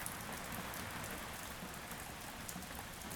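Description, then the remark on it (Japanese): Heavy, cold rain pours steadily onto the ground of the square in front of a concert hall, a dense, continuous hiss of countless drops with scattered sharper splats, unbroken, with no voices. “冷たい豪雨が音もなく地面を叩き続けていた。”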